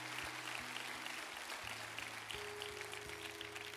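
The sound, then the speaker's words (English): Steady, dense crowd applause fills the whole clip, a continuous crackle of many hands clapping, with sustained low musical tones playing underneath. “Stay in this place of prayer, but I want you to give these people a round of applause.”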